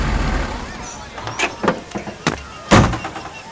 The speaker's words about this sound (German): Plötzlich fuhr ein großer Lastwagen durch das Tor.